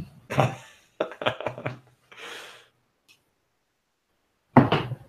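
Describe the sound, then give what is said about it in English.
Three knocks on a wooden door land in a quick cluster, fairly loud, surrounded by brief thuds and a soft rustling shuffle, with pauses of quiet between. “You'll be receiving 3 knocks on your door in probably 10 seconds.”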